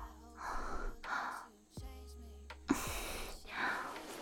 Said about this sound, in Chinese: 等一下，我有点喘不过气来了。